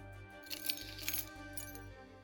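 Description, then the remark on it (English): A few light metallic clinks and jingles as the key to the Grey Room is handed over, soft over a low steady hum. “The key to the Grey Room, if you please.”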